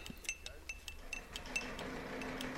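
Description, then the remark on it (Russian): A spoon clinks repeatedly against a glass of tea as it is served, a quick series of light, bright chinks, with a faint murmur of voices underneath toward the end. “Пожалуйста, держите стакан.”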